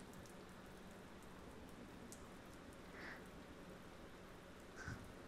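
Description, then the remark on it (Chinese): Steady rain falls in a continuous, even hiss, with a few brief heavier drops or taps standing out near the end. No voices are heard. “因为你来了这里，下雨的时间就不用一个人过了，这可能是上天对我的恩惠呢。”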